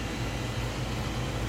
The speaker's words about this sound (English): Okay, looks like the big printer is printing. Wow, right off the bat, it is doing phenomenal.